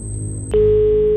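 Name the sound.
telephone ringing tone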